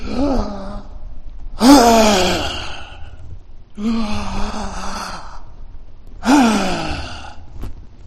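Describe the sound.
A voice imitates the labored, gasping breathing of a woman sitting hunched over on the side of a hospital bed: four long, strained breaths alternate between harsh wheezy inhales and groaning exhales, fairly loud, with no talking.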